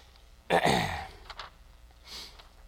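A person yawns once, a drawn-out, breathy vocal sound with a falling pitch, followed by a softer exhale a moment later, fairly close and otherwise quiet.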